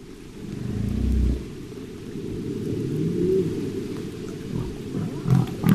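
Humpback whale song: deep, drawn-out moans and rumbling groans with a few rising tonal calls, heard alone against a steady low underwater wash, fairly loud throughout.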